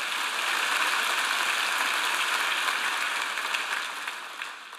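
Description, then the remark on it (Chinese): Sustained audience applause, a dense, even wash of many hands clapping for about five seconds, steady and full before easing off slightly toward the end, with no voices. “我的时间到了，给他们掌声。”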